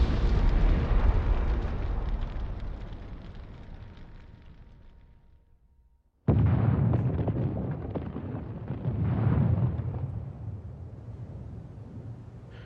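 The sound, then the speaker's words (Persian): A deep, roaring volcanic blast rumbles and slowly fades, then after a brief silence a second powerful explosion bursts in with a thick, rolling low roar that surges and churns. No voices are heard. “هیچ کس نمیتونه قدرت تخریب آتشفشان رو پیش بینی کنه.”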